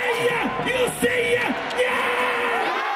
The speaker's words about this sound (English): You know, literally from first pitch to final out, cheering. Every team has a cheerleading squad, you know, set up on the stage, either first base or third base side.